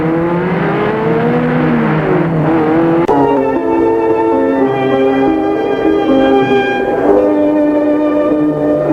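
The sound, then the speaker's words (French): A car engine hums steadily as the car drives, its tone rising and shifting with gear changes, continuous throughout with no voices. “Ils montèrent dans sa voiture et l'invita au restaurant Le Champagnard.”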